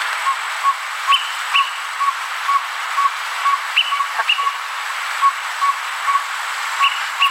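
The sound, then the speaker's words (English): A Greater Pewee recording from birdsounds.net repeats short, clipped pip notes at a steady pace, with a few higher squeaky chips mixed in, all over a constant background hiss. “And I happen to pull up the Greater Peewee, just so you know, and I this is what the Greater Peewee sounds like, so everyone can have an idea of what we're trying to talk about here.”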